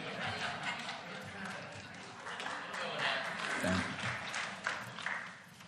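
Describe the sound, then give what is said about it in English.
Light, polite clapping from a small group, a soft patter of many hands lasting several seconds, with faint murmuring voices underneath. “That was like a golf clap.”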